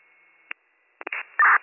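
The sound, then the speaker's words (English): Band-limited fire dispatch radio transmission with bursts of crackly static and garbled, unintelligible noise, including a loud harsh burst near the end, over a faint steady hiss. “All static, but I heard respond with 61.”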